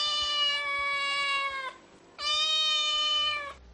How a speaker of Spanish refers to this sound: Por ejemplo, este es el maullido de un gato que te da la lata.